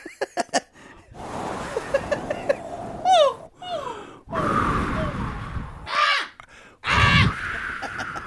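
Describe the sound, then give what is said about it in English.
A person imitates a crow with a series of loud, raspy, strained caws, separated by short pauses and soft breathy noises. Some caws are brief, others drawn out. “It was a good crow.”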